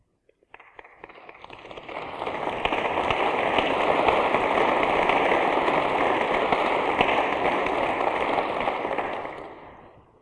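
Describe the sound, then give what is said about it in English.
A large crowd applauds in a church, the clapping swelling quickly into a dense, steady roar of many hands, holding for several seconds, then tapering off. “Stendhal also said you shouldn't clap in church.”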